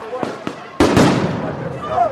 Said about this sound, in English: Sound bombs and rubber bullets were fired and tear gas was hissing all around. The officers repeatedly charged the demonstrators.